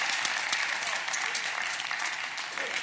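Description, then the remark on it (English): A small group at a church service claps steadily, the dense patter of hands forming a continuous wash of applause that holds a fairly even loudness for a few seconds. “I need about five of y'all to clap and act like you're part of this church.”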